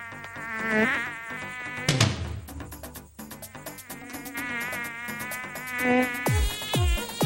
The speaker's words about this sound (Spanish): ¡Atención! ¡Atención todos! ¡Que ataca la mosca!